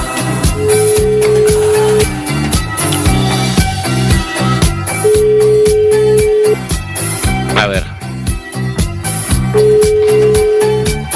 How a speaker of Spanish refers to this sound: De momento no me coge el teléfono